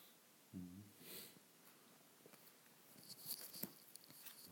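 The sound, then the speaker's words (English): A dog waking up stirs with a short, low snort followed by a breathy sniff, then soft rustling and light pattering movements. Quiet, with no one speaking. “Yeah, the dog is waking up.”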